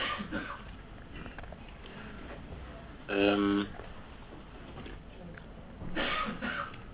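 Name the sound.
cough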